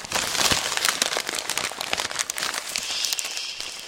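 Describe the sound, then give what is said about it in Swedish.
Steady crinkling and crumpling, like plastic or paper worked in the hands, made as a film sound effect, gives a dense, irregular crackle that imitates a burning fire. It continues without pause for a few seconds, with no talking. “Ja, så kan eld låta.”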